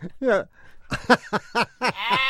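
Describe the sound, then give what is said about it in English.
A rapid series of about six wavering, nasal sheep bleats, fairly loud, recorded on a tape recorder during a visit to a flock of sheep, with human voices imitating the bleats mixed in among the real animals. “I couldn't discern which of the sheep. Which was us. Can we hear it one more time?”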